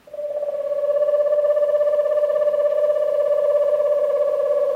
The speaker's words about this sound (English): In an eastern woodland, the eerie trills and whinnies of an eastern screech owl are among the first sounds of the night. An eastern screech owl is petite, standing just under 9 inches tall.